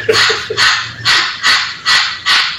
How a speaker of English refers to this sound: I think that parrot is mad we're not drinking more rum right now.